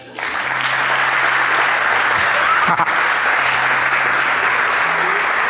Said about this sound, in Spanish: Tenemos en este momento 340 personas del grupo de WhatsApp y 130 personas ayunando en este momento. ¿No va a aplaudir?